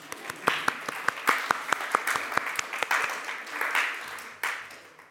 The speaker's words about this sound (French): Applaudir.